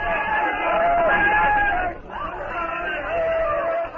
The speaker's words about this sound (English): Hang on. I cannot hear what they are shouting about. I am going up to the front of the cavern where I can hear.